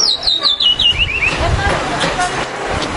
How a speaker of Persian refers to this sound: بله قناری های خوش صدا رو اینجا میبینید. برم چه این قناریه صداشو خوشگل تر بشنوید شما اینجا.